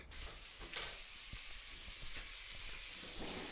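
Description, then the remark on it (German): Meat cut into pieces sizzles steadily as it is seared in hot fat and a little oil in a pan, a continuous crackling hiss with a few sharper pops and spits, no voices. “Das wird jetzt in die Pfanne mit dem heißen Fett geworfen.”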